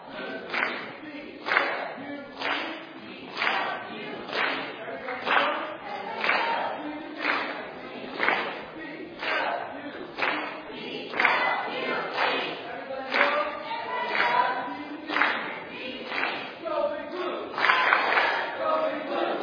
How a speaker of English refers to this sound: Let's do a cheer. Blue team, come up and give us a cheer.